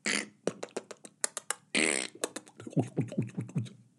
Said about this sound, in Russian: Кроме оглушительного пердежа военных солдат. Ну, там попробуй не услышь. Работает как гаубица.